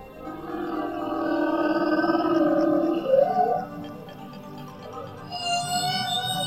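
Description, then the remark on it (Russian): A blue whale's long, low moaning call, heard underwater, swells and sweeps upward midway, then fades into softer, higher tonal cries near the end. The sound is resonant and unaccompanied by speech. “А вот и наш знакомый, синий кит-полосатик.”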